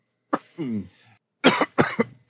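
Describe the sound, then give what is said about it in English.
A short morning coughing fit: an opening cough and a throaty, voiced rasp, then a pause and several sharp, loud coughs in quick succession. “That's my morning coughs.”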